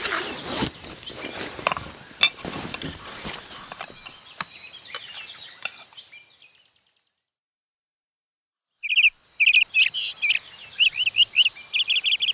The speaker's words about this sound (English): Wait a minute. What's that bird? It's the little tweeter. We found it.